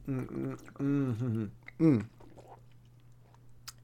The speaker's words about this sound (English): I'm having a Marco Rubio moment. I just need to drink some water on camera. So just hold on here.